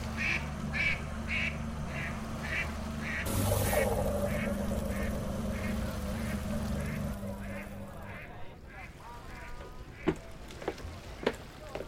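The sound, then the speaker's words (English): Ducks in North Korea quack in a steady, repeated rhythm, with a low engine-like rumble underneath, a brief burst of noise partway through, and a few sharp clicks near the end. “Some North Korean ducks. They're out of here.”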